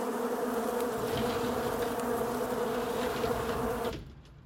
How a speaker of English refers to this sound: Oh, crap. What is that? Well, it looks like a bunch of bees, bro. Bees? Shut the window. Shut the window, quick.